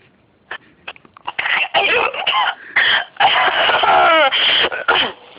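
A few faint clicks, then a loud run of harsh, rasping coughs and throat-clearing bursts in quick succession, some with a strained, wheezy edge.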